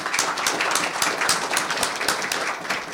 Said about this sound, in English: So we certainly appreciate them and thank them for their service. Let's give them a hand of applause also.